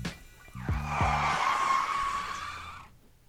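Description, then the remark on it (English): A loud, sustained tire screech, like a car braking hard, rises quickly and holds a high, wavering squeal for about two seconds before fading out, with a low rumble at its start. “What isn't great for me that I need Reg DeLez to hit the brakes on, please, immediately.”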